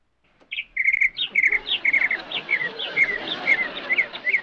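A Clagwell electronic organ's bird-call sound effect, played by pressing keys: a steady string of bright, high chirps and warbles repeating quickly for several seconds, fairly loud, with no talking.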